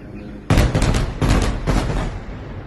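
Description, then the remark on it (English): Three heavy explosions in Gaza City, recorded from inside a home as they sounded outside its windows, boom in quick succession. Each is a broad, rumbling blast whose low roar lingers and fades into the next. “Ferwana recorded the sounds of explosions she's been hearing outside her windows.”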